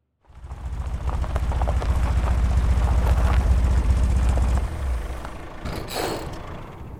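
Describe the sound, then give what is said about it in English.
A heavy truck engine rumbles loudly and roughly, then splutters and cuts out abruptly as the truck runs out of fuel, leaving a fading mechanical clatter and a few scraping, grinding sounds as it halts on a forest path. “Truck splutters, the engine fails, and the vehicle grinds to a halt on the forest path.”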